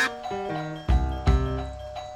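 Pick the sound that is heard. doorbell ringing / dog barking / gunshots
doorbell ringing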